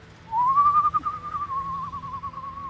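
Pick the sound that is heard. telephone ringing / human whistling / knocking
human whistling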